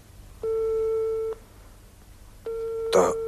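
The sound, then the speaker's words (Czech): A telephone on a wobbly little table in a hallway rings in two long, steady electronic tones separated by a short pause, clear, with a brief burst of voice overlapping the second ring. “Tohle je můj telefon na vratkém stolku v předsíni.”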